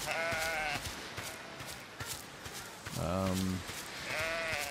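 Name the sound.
sheep bleating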